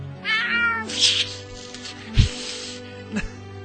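A cat meows and yowls in a few drawn-out, wavering cries, fairly loud, with short thumps between calls and no talking.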